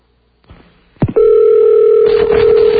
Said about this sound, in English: Richard Burton's phone ringing.